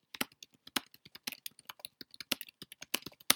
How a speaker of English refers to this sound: I'm making a note because I wanted to like put a pin in that, because I want to come back to that. So you're going to hear me typing, because I really want to come back to that at some point.